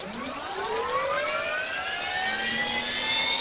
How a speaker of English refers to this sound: Commander Chuck Street fires up his helicopter, getting ready for his afternoon traffic report for Los Angeles radio station KISS FM.